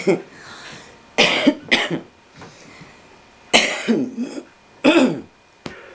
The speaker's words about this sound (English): I have to clear my throat. Excuse me.